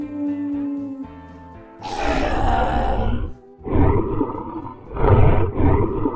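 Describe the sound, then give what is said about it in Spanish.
A sustained tonal hum gives way to a loud, rough monster roar, the growl of the grandmother's nightmare, followed by two more snarling growl-roar bursts, deep and raspy, with no voices. “Gruñe la pesadilla de la abuelita.”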